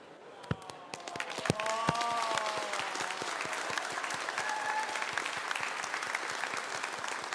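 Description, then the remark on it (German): Sustained audience applause, a dense wash of many hands clapping with a few sharper individual claps standing out, building slightly and then holding steady; faint voices or whistles mingle in. “Lass mal durchziehen, mal sehen, wie lange die klatschen.”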